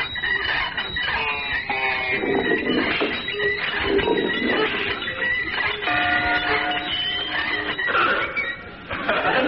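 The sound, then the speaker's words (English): A hand-cranked mangle contraption being turned, setting off a steady jumble of clanking, squeaking and whistling, bell-like tones that keeps going for about nine seconds with no one speaking. “with the handle of the mangle sticking out the side like that. Let's give it a turn.”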